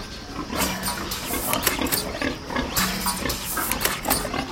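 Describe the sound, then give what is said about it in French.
Pigs grunt and squeal continuously inside a busy pig production farm building, a dense, noisy chorus with occasional sharper bursts and some metallic clatter in the background, and no one speaking. “Faut pas oublier qu'on est dans un élevage de production. Moi, je passe pas mon temps à caresser les cochons.”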